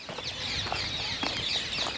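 rose-ringed parakeet calls

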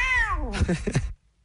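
cat yowling

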